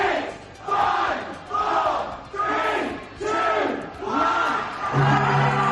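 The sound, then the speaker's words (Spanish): A packed crowd in a pub in the United Kingdom roars and chants, celebrating what was called Freedom Day like New Year's Eve, in rising, rhythmic surges, voices shouting together in loud waves about once a second, with a sustained tone emerging near the end. “En cambio, en el Reino Unido, en contra del criterio de los expertos estamentos sanitarios hoy celebran lo que han llamado el Día de la Libertad y en algunos pubs lo han festejado como si fuera Nochevieja.”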